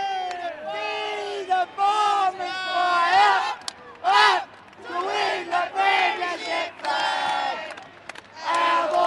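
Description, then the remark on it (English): The Essendon cheer squad in a large football stadium chants and sings together in loud, sustained waves of massed voices, rising and falling with brief pauses between phrases, with five minutes left in a game against Carlton. “With 5 minutes to go in the game, the cheer squad relax and begin singing.”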